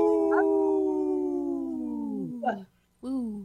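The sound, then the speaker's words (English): Three people imitating wolf howls in three-part harmony: a long, loud, wavering howl that slowly slides downward and fades, followed after a short pause by another howl starting up, clear. “Yeah, it was the harmony, the three-part harmony was awesome.”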